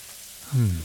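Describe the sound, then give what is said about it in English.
Steady, soft hiss of warm running shower water spraying throughout, joined partway in by a low, drawn-out voiced sigh from a person. “God, the warm water feels good after a long day.”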